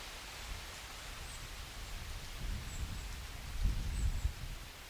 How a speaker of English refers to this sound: Hey, the rain's picking up, though. Listen to that. Let's see if we can get some of this audio. Yeah, I imagine you know what rain sounds like. So it's pretty much the same everywhere you go. But, oh, it's getting windy now, too. Listen to the wind.